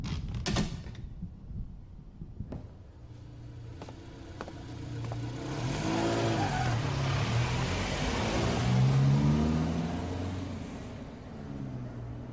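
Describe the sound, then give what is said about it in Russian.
A car door clicks and thumps shut, then an engine starts and revs, its hum rising and swelling as the car pulls away. No one speaks. It is Bormann's car. “Это была машина Бормана.”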